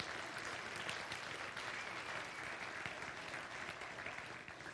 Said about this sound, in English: Amen. Go ahead and clap. That's awesome.